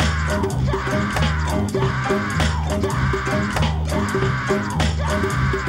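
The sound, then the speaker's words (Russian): Loud, continuous screaming and cheering from several people celebrating a victory, rising and falling in repeating waves with no pause throughout. “Вот этот крик в моих ушах – это от победы. Люди ликуют, говорят, молодец, наши деды так не умели играть в сику, бридж и покер.”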